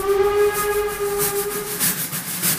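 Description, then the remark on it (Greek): A steam train whistle gives one long, steady blast over a constant hiss of steam, then cuts off, leaving rhythmic chuffing bursts of steam. “Και ο παππούς άργησε κομμάτι και ήρθε χτυπημένες οι 12, γιατί το τρένο είχε καθυστέρηση.”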